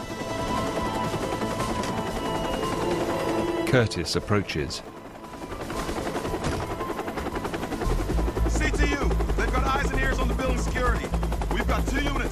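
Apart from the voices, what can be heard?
helicopter landing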